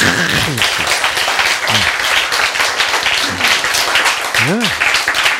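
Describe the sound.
An audience breaks into sustained, dense applause filling the whole stretch, many hands clapping at once, with scattered voices calling out underneath.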